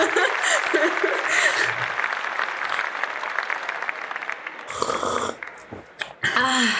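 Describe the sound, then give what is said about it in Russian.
Dense, steady clapping fills the scene for several seconds, thinning near the end, with voices whooping and chattering over it. “Где аплодисменты вообще?”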